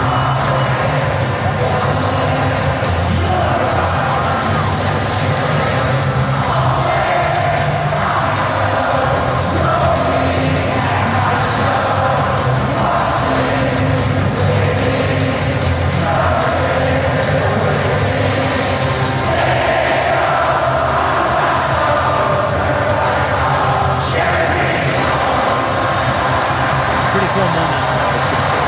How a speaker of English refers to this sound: they just let him sing with the crowd. Yeah, it was pretty cool.